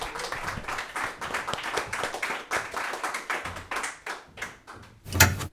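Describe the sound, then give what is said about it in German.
A crowd claps steadily for several seconds, a dense patter of many hands, ending with a few louder claps just before it stops. “Applaus.”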